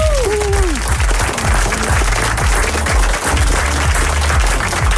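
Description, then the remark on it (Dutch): Loud, sustained applause from an audience for a DJ on Radio 538's weekend mix, a dense wash of clapping that fills the whole clip, with a brief rising-and-falling musical sweep at the start and a low rhythmic beat underneath. “Ja, en daar waar ik middag zei, bedoel ik natuurlijk avond, mag ik een heel groot applaus voor ….”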